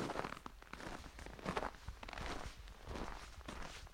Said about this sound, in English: Inside the ice hotel, all sound dies in the 3 feet thick snow and ice walls. The only sound is our own footsteps.